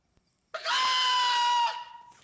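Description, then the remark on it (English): A single loud, shrill peacock scream rings out for just over a second, harsh and strongly tonal, then cuts off into silence with no talking. “What's the name of the coffee roastery again? Screaming Peacock.”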